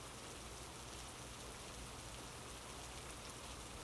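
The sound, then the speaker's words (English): Heavy rain pours down outside in a steady, dense hiss that never lets up, a continuous wash of drops with no voices or other sounds over it. “Still can't believe how hard it's coming down out there.”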